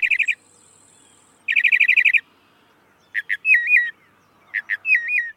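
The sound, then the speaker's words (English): A northern mockingbird sings alone: rapid buzzy trills in bursts, then sharp chips followed by warbling, wavering whistled phrases, bright and fairly loud with short pauses between. “Which is partly why Thomas Jefferson kept pet northern mockingbirds in his house, especially in his office and sleeping quarters.”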